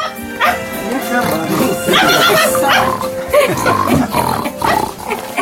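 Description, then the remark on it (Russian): At a New Year performance, human voices mimic a pig's oinking and a dog's barking, the symbols of the new and past year. Several loud calls tumble over one another against a busy, steady background. “Появились и сказочные символы прошлого и наступившего годов. Собака и свинья.”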